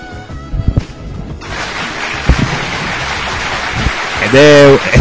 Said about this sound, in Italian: Ed è un fragoroso applauso quello che si sente in redazione